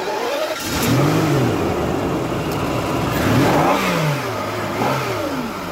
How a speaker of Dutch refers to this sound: Lekker hoor. Weet jij welke auto er is gestart in de showroom?